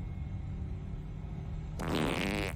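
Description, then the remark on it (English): Harley Quinn lets out a single loud, buzzy fart in the Batmobile after a stretch of low rumbling background noise, lasting under a second before cutting off. “She farted in the Batmobile.”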